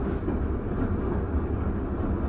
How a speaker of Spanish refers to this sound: Mecánicamente siguen siendo como siempre han sido, ya que al arrancar se nota ese característico sonido de los viejos motores eléctricos de corriente continua.